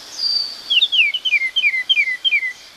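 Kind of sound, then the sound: bird, baltimore Oriole song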